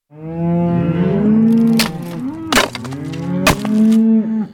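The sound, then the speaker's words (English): A hungry cow moos loudly and at length, its low harmonic call rising and falling, punctuated by a few sharp cracking or splintering bangs as it breaks the door of a storage shed with its horns. “One of the hungry cows broke the door of the storage shed with her horns.”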